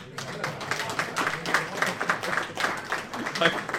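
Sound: audience applause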